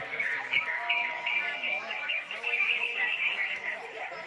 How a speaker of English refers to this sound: Sounds like we're in a jungle with some birds.